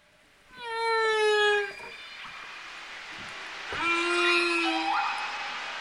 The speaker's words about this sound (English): The calls of whales have echoed in the ocean for about 50 million years. They tell the stories of mammals that have survived big threats before.